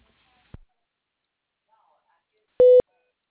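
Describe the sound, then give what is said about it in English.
A sharp click is followed by a short, loud electronic phone tone, like a keypad dialing beep, near the end, with a faint murmur of voice in between, as a three-way phone call is launched. “So I'm going to launch us on a three-way call so that you can get the information from the customer.”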